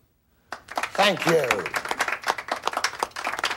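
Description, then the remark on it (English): A small burst of clapping from a modest crowd, sparse and irregular, starting suddenly and continuing steadily, with a voice calling out briefly over the first second. “Little applause, please.”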